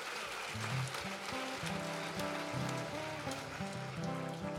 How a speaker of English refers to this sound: Let's give the Lord a hand clap of praise because he's worthy. Amen.